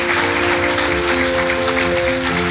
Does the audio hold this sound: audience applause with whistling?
yes